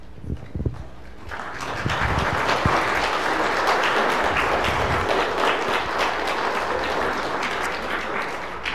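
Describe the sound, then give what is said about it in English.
A large group bursts into sustained applause to thank standing committee members who helped organize a picnic; dense clapping swells after a second and holds steady and loud for several seconds, with a few scattered sounds at the start. “And so if you're on the Fellowship Committee and helped out last Sunday, would you please stand and let us thank you with a round of applause?”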